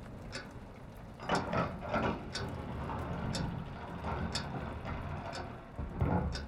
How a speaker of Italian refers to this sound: bussa alla porta del tempio, venerabile maestro. Fratello copritore, verificate chi bussa così.